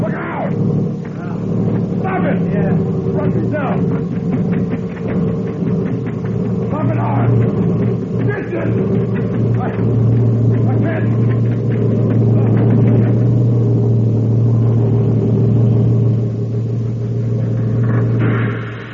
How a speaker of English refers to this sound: I saw you fall in front of the truck. I didn't fall. No? I laid down so the truck could pass over me.